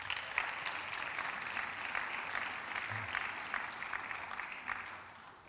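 Audience applause for a model called up by the speaker, a steady dense wash of many hands clapping at an even level before tapering off slightly at the end, with no voices.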